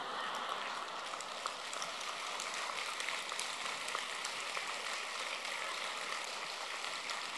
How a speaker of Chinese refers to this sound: 谢谢你们的鼓掌，我听的不是这么热烈。好，我台长听惯了上万人的鼓掌，跟你们开玩笑，因为你们的声音虽然小，但是都是用心鼓出来的，就很感动。